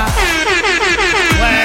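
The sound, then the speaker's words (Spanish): A loud, blaring reggaeton-style air horn fires in rapid repeated blasts, each stuttering burst sliding in pitch, played alone with no voices over it. “Oye, tengo en la bocina de reggaetón ahora gracias a mi auditora favorita.”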